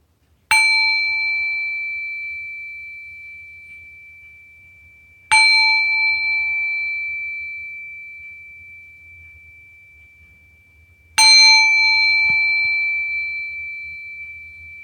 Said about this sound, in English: So we'll begin with three rings of the bell, and we'll end with three rings of the bell.